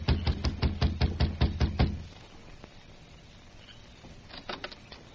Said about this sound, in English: His jaw set, he climbed the steps, crossed the porch, and knocked on the door.